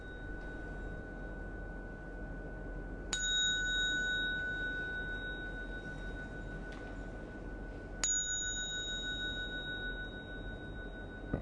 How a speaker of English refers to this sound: Oi, oi. Second bell. Okay, very good.